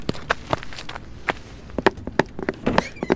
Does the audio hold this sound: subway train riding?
no